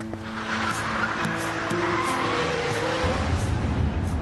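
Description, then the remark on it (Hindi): A car engine revs hard and climbs through the gears as the car is driven very fast, speeding away with a sustained tire squeal over a steady roar of road noise. Loud, no voices. “बाबा जान, बहुत तेज गाड़ी चला रहे हैं आप, आहिस्ता करें।”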